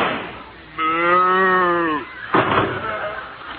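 A single long, loud moo rises in sharply, holds steady for over a second with a slight downward sag, then stops, followed by a rough burst of noise and murmuring voices.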